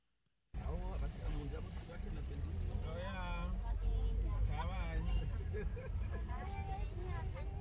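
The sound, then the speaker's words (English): Steady low rumble of road traffic and a running vehicle, continuous and fairly loud throughout, with people talking over the noise, on the drive back home through heavy traffic with motorcycle taxis. “just play the one that is on way back home through traffic”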